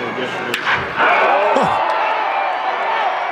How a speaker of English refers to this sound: Was that a torpedo bat? No. Like, I don't know, the best part about this audio is the actual crack of the bat